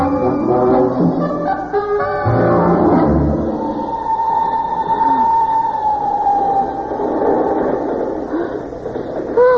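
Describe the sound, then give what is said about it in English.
The Simplon Orient Express train pulling out of a station: a steady, loud rumble of wheels and engine, with a long sustained whistle tone rising over it and brief harmonic horn blasts near the start. “They're literally thrown on a moving train by a bunch of porters.”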